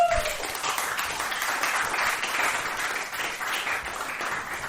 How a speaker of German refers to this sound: Einmal kurz einen Applaus für die Dame. Bitte. Ein Applaus für die Dame.